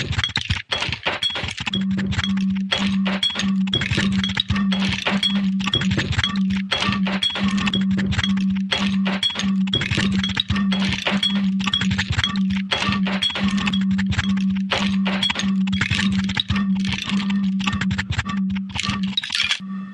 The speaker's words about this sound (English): I think I'm going to flick my microphone.